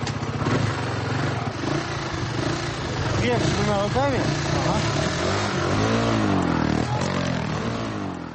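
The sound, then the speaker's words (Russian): Motorcycle engines rumble steadily, with several throttle revs rising and falling in pitch, while voices murmur faintly underneath the continuous mechanical drone, as bikers of a motorcycle club in Pskov give rides on their motorcycles. “Байкеры с удовольствием общаются с детьми, смотрят концерт, специально подготовленный к встрече, пьют чай и обязательно катают всех желающих на мотоциклах.”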